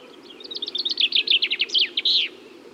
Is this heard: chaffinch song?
yes